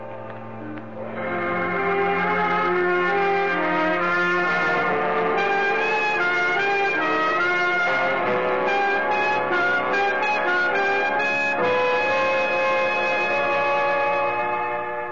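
foghorns sounding

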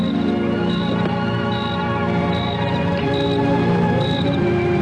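crickets chirping

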